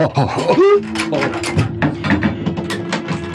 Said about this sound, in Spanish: Se escuchan descorrer cerrojos y la puerta se abre, bañando de luz la figura de una hermosa mujer envuelta en transparentes gasas.